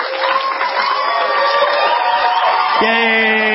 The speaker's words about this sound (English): There they are. They're still applauding him. Oh, that's standing room only.